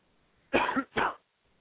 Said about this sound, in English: I'm doing all right. Still got this stupid-ass cough. Periodically, I'll get a pretty good when I'm talking, and then I'll sound like that chick in The Exorcist.